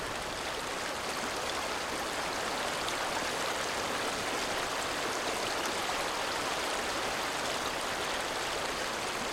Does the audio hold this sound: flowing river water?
yes